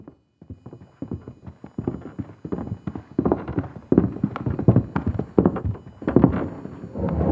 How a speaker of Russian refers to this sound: И опять, уже за полночь, раздались тяжелые шаги. Они приблизились прямо к их камере, минуя все остальные.